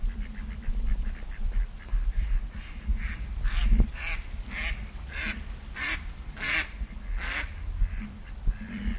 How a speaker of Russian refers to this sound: Ну вот на берегах Ракитки нашли приют городские утки и селезни. А здесь они зимуют, и, видимо, им здесь есть чем питаться.